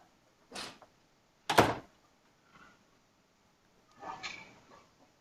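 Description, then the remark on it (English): A door is closed: a short knock-like clunk, then a louder solid thud, a faint rattle, and a longer scraping swing ending in a soft click, with no talking. “do you mind if I close that door here? I'm finding it very annoying.”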